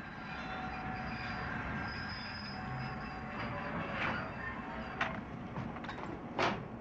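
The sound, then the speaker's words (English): A train rolls steadily along the rails through green countryside in Carolina with a constant, heavy rumble, punctuated by a few sharp clacks from the wheels passing over track joints. No voices are heard. “I think we took the wrong train.”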